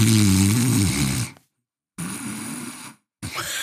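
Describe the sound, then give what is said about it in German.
A voice imitates the loud snoring of a colleague who fell asleep in the front passenger seat of an ambulance: three drawn-out, rasping breaths, each separated by a short silence, with a low guttural rumble and a gurgling wobble in the first. “Da ist der Kollege tatsächlich eingeschlafen auf dem Beifahrersitz.”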